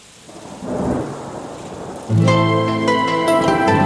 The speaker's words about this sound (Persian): پنجره باز و بارون دارم بیرون میباره، شب و با صدای بارون تو رو یاد من میاره